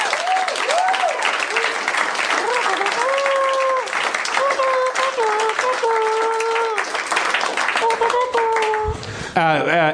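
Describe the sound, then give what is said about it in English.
Dense, sustained applause from a large audience fills the whole span at a steady, loud level, with cheering voices rising and falling through the clapping. “Yeah, applause.”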